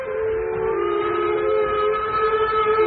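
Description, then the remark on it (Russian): A departing train leaving a station platform sounds a long, steady steam whistle with layered tones, loud, over a low rumbling background for the whole few seconds, with no voices. “Поезд ушел быстро, его огни скоро исчезли, и через минуту уже не было слышно шума.”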